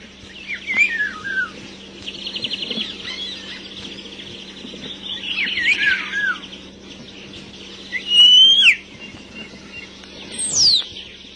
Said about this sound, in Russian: Птицы у дома господского, у флигелька няни. Мы слушаем зеленушку и скворца. Они выводят те же трели, как и в то далекое время.